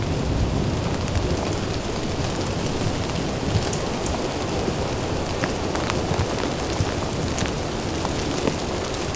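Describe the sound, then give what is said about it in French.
Light rain falls steadily throughout, an even hiss of drops with occasional sharper ticks standing out. No voices. “Un filet de pluie.”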